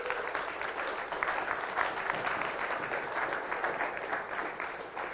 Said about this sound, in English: Now, most of you didn't see who raised their hands, but I think we ought to give them a round of applause.